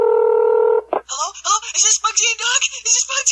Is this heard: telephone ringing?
yes